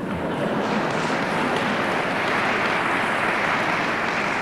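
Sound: audience applause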